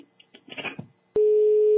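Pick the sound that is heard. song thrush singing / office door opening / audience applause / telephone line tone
telephone line tone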